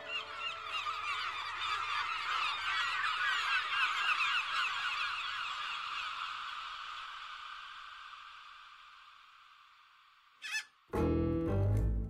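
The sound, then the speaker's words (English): A crowd of seagulls squawks in a dense, overlapping chorus that slowly fades, then cuts off abruptly into a brief, louder burst of noise at the very end. “Squawk!”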